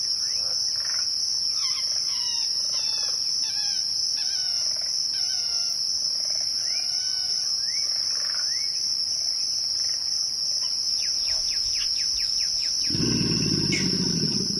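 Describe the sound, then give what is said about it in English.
A dense swamp chorus: a steady high-pitched insect or frog trill throughout, layered with repeated bird chirps and calls, and a deep, rough grunt rumbling in near the end. “Kim Wilson recorded this chorus of bird songs, frog calls, alligator grunts, and the squeal of an amphibian being skewered by a heron in the primordial waters of the bayou.”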